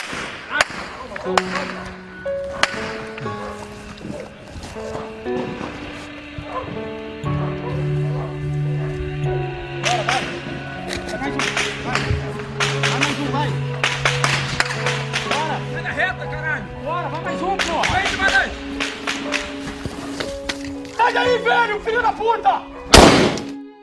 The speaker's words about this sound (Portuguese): E as luzes todas se apagaram, o bairro ficou no escuro. E depois disso, as pessoas começaram a ouvir tiros.